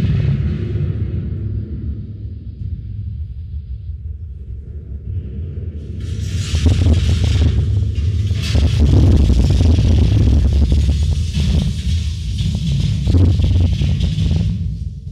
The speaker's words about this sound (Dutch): 4 soldaten hebben geen schijn van kans, want er is een vuurgloed en zij sterven dadelijk ter plaatse hier op deze plaats, 4 Belgische soldaten. Ik ga even een simulatie doen van de ontploffing.